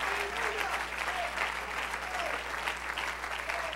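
A church audience claps hands steadily and continuously to praise God, a dense wash of many overlapping claps at moderate loudness, with faint voices murmuring underneath.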